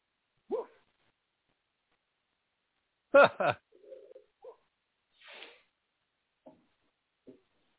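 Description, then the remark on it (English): A man in a video barks out a loud, shouted woof, made into a drop: a sharp double burst that stands well above several brief, quieter vocal sounds scattered through otherwise silent stretches. “He throws a gigantic woof or two into that one, so I made it into a drop.”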